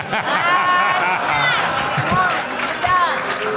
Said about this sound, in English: Whoa! Stop booing it, my friend.